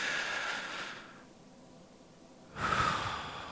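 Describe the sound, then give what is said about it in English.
A person takes a deep breath: an audible breath drawn in for about a second, a short pause, then a louder, rushing exhale. Clear, with no talking. “Take a deep breath. Join me.”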